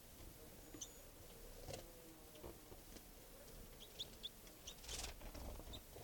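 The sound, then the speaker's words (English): A juvenile wild bird takes off from a camp about 6 feet away beside a truck, flying up to a tree branch with a quick flurry of wing flaps, followed by soft scattered chirps and a brief rustle against a quiet outdoor background. “That was a wild bird flying.”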